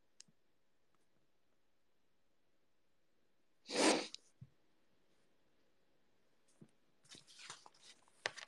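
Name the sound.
sneeze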